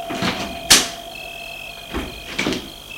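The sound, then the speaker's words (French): A car door opens with a sharp latch click as a man gets out of the car, and a couple of seconds later comes a dull thud as it shuts. A steady high-pitched hum continues in the background. “Il sort de voiture”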